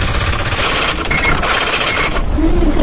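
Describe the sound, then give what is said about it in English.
Fast, continuous mechanical clatter of a typewriter being typed on, with dense rapid keystrikes running steadily at a fairly loud level for the whole stretch, with no talking. “We have typewriters.”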